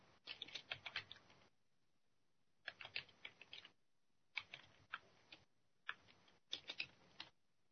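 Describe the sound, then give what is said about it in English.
Bursts of rapid clicky keystrokes on a computer keyboard, fairly quiet, coming in four uneven runs separated by short pauses, with no voices. “I'm typing. You might be able to hear me.”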